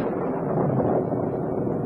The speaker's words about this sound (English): There's the storm. Wind up the windows.